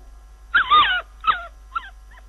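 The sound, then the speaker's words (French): A small dog whimpers and yips in a quick series of high, wavering cries, the first loudest and longest, then three shorter ones fading away. No voices. “Ah, petit chien là, avance, allez! Avance!”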